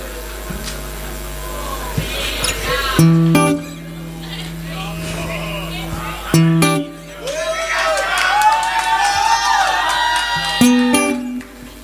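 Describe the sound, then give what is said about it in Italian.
A concert audience applauds and cheers in a steady, noisy wash, with a few sharp bursts and high whistles and shouts rising above the clapping partway through. “Ma che cazzo applaudite?”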